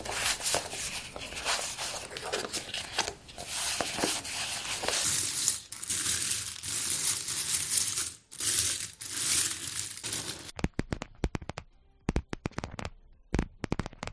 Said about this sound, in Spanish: Mira, el primer sonido era una persona barajando cartas, luego moviendo unas monedas y finalmente golpeando las uñas contra el tapete.